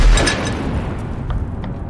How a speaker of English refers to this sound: And this huge explosion happened just down the street. I've heard explosions before in Kabul over the years, but this was by far the largest. This was the closest I'd ever kind of been to one. And the windows kind of rattled